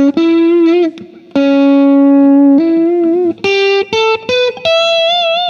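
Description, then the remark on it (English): An electric guitar played through a Blue Note distortion pedal with mild, bluesy overdrive plays a short lead phrase: long sustained notes with vibrato and bends, then a few quicker separated notes, loud with no voices. “pretty subtle, just kind of, it's a distortion thing, but it's sort of, you know, like blues kind of thing, not a real heavy...”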